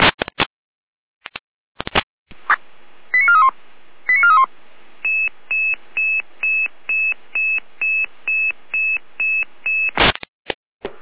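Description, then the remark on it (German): Radio alerting tones for a fire brigade callout to an oil spill: static clicks, a pair of warbling tones, then a steady run of about a dozen short, evenly spaced electronic beeps, ending in a squelch burst. “Perfekt, mit Alarmierung.”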